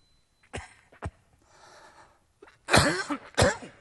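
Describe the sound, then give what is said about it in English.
A person coughs: two short, lighter coughs, a breathy pause, then two louder, harsher hacking coughs. No talking. “Apologize for the cough here.”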